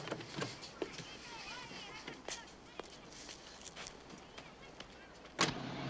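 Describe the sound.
A sheriff's car rolls up amid steady outdoor noise and faint background voices, then a single sharp door thump lands near the end as a man shuts the door.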